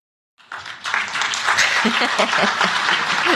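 audience clapping

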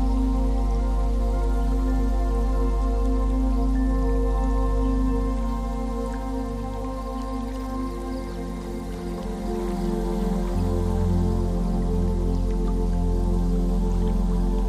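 water lapping

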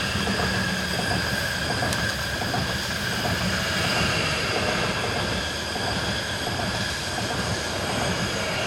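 train passing by

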